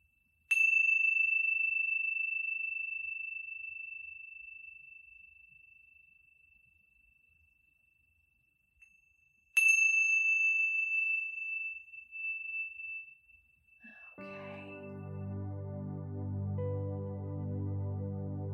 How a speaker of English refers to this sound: When you hear the sounds of the chimes, listening all the way through to the end, and then gently returning to the room.